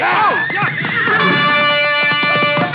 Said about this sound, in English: Tuller lashed his horse and dove behind the other mounts at the rack. The frightened animal reared over and knocked Small into me before Clark could grab the bridle.